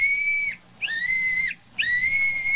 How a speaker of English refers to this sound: Sure, and he gave me this little whistle and said if we ever needed help, just to blow on it 3 times, and he'd come a-running.